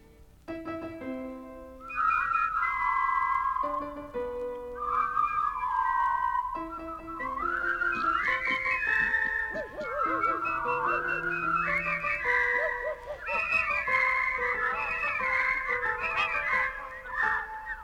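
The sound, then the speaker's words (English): The Whispering Yeast All Animal Whistling Chorus, joined by Maestro Urpil Sweeney, whistles a rousing, marching melody in unison as an opening selection, bright wavering notes over a steady lower accompaniment, loud and continuous with no talking. “For their opening selection, the Whispering Yeast All Animal Whistling Chorus joins Maestro Urpil Sweeney in a rousing salute to reality.”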